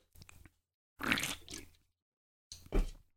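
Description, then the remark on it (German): Someone clears their throat three times in short, rasping bursts, the middle one longer and harsher, with brief silences between them and no talking. “Frosch im Hals.”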